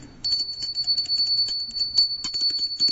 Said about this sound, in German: Ich höre schon die Glocke, hörst du sie auch?